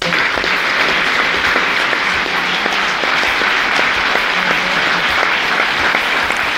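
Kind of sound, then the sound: crowd, long applause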